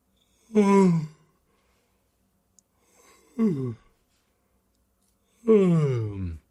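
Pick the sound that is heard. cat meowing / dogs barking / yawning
yawning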